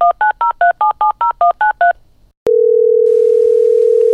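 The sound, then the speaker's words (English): A rapid run of about ten telephone keypad beeps, then a click and a steady, loud ringback tone as the outgoing call starts to ring. No one speaks. “All right, it's ringing.”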